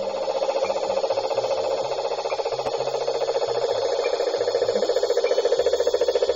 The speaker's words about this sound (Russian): Это дизельный моторчик работает, ребят, я вот понял. Маленькая лодочка, дизельный моторчик работает.